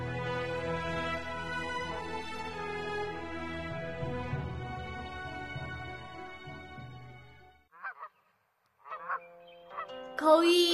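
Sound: geese honking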